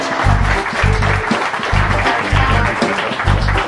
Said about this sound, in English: Okay, round of applause.